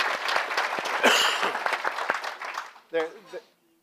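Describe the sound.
A crowd applauds with dense, crackling clapping for about two and a half seconds, fading out before a single voice briefly speaks at the end.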